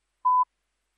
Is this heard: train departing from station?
no